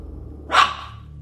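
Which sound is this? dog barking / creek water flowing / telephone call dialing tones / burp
dog barking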